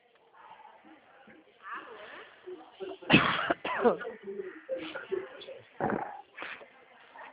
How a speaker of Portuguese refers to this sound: ainda te mata com essa tosse. Menino, mas eu não sou fumante, não. E fica com essa tosse, né?